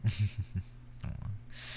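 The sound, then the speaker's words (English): A dog snorts and breathes heavily, a few short grunting puffs followed by rough, raspy exhales and a sniffly breath, with no talking. “Yeah, your dog got out, so I saw him wandering about, so I thought I'd bring him back.”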